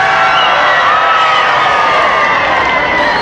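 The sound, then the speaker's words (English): A large crowd claps and cheers continuously as President Kennedy, flanked by Representative Jim Wright, makes his way across 8th Street. A loud, dense wash of applause and voices, with occasional whoops rising above the steady roar. “You hear the crowd applauding.”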